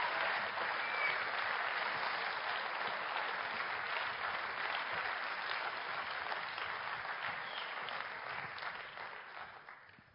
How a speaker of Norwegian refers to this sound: Og så gir dere kveldens største applaus til disse mens de på vei ned. Tusen takk skal dere ha!